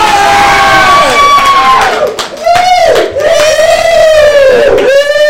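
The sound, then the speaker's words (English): The audience of the Comic Book Club show cheers loudly and continuously, with sustained whoops and shouts that rise and fall in pitch, forming a dense wall of enthusiastic voices for about five seconds. “But I think you guys just cheered him up.”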